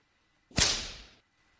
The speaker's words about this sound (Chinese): 这是一条鞭子。哼，没想到吧，你姐姐我虽然没有接触过 SM， 但是却有一条专门用来抽像你这样抖 M 见狗的鞭子呀。